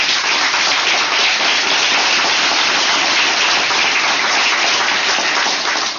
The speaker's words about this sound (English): Well, you should give the first team, actually, some applause. Give them hands. They were very good.